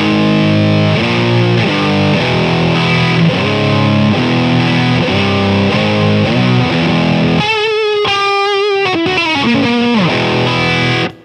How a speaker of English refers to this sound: This is just a nice, really crunchy distortion box.